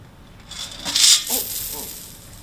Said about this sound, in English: I think I lost some more coins.